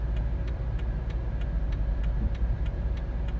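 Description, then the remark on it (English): A white Dodge truck's low engine rumble rolls steadily along the street, loud, with a faint, regular ticking running over it and no voices. “White truck. Dodge.”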